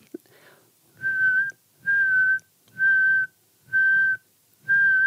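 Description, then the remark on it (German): A person whistles five steady, sustained notes at one unchanging pitch, each about half a second long with short pauses between, clear and moderately loud, imitating a nightingale to draw it into a duet. “Und zwar ist es ein ganz sonores, muss auch gar nicht lautes Pfeifen sein, wo man die Frequenz nicht verändert.”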